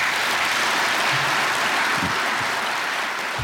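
A crowd claps steadily in dense, continuous applause at a loud, even level throughout, with a few low thumps and no voices, welcoming the speaker Dr. Michael Lüders.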